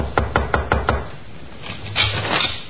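Five quick, evenly spaced knocks on a wooden bedroom door at night, fairly loud, followed by a short pause and a few softer, muffled taps.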